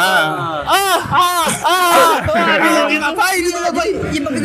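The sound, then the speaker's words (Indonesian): A voice imitates a basketball player's loud, drawn-out yells and whoops, made when body-checked while carrying the ball, rising and falling in pitch, energetic, filling the short stretch without pause. “Jadi kalau lu lagi bawa bola terus ngebody, dia langsung akan teriak”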